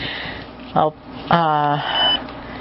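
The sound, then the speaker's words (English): Two electronic beeps from a digital voice recorder, signalling the end of a file folder while browsing: a short, bright blip followed a moment later by a longer, buzzier tone. Both are clear against a quiet background. “When you hear that beep, that double beep, you know that you're at the end of the folder.”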